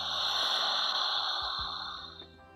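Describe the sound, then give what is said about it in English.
A deep, sharp inhalation drawn through an open mouth during a guided breathing exercise, a loud, breathy rush of air lasting a couple of seconds before tapering off, with no speech. “And then maybe keep your mouth open and take a deep, sharp inhalation through open mouth.”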